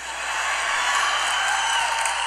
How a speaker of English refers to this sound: I know that you're applauding to hear … sing again.